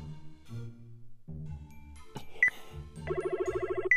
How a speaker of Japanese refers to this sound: やべ、本当押しちゃった。本当にかかってんのかな。